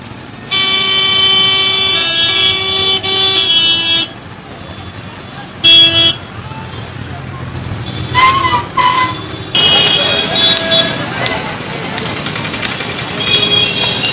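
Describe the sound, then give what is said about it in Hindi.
Dense road traffic, shown in fast-forward, with repeated car horns honking over a steady engine rumble, long blaring toots and short beeps overlapping throughout, loud, with no one talking. “ये fast forward mode में है, कितना ट्रैफिक का पालन हो रहा है, कितने लोग सुरक्षित महसूस करते हैं।”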